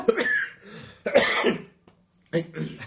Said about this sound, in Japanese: それポテトチップス食いながら蜂蜜クローズドリンク飲みまくってるからや。 はい。 ええねんけど。咳込んでくれても大丈夫やけど。